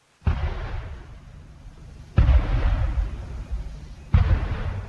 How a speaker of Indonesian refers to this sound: Pada tanggal 6 Juni ini, udara sekali lagi dipenuhi asap dan suara gemuruh terdengar ketika pesawat-pesawat tempur terbang di angkasa. Tetapi kali ini, asap yang membubung di udara berasal dari tembakan kehormatan 21 kali